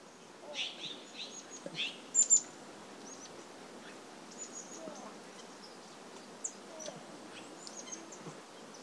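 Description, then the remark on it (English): Wild birds in early fall: scattered chirps and short calls ring out over a steady outdoor hiss, with a brief louder burst of calls early on, then sparse, faint tweets continuing. “it was in the early fall, but there were still quite a few birds around”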